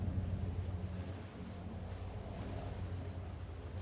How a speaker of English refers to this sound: I do hear a helicopter. Let's put this over here. Like that. There. Let's wait for this helicopter to go by. It's out there somewhere. It's out there. It's out there somewhere. I can hear it.